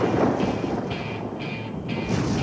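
A deep, rolling boom of thunder rumbles steadily throughout, loud, with a dense low roar and faint higher hiss drifting in and out. No voices are heard.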